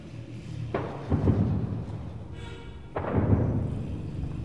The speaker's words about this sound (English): It's not even 8 o'clock in the morning, and for the last 3 hours, we've heard the constant sound of artillery booms, of gunfire, some in the distance, some much closer by.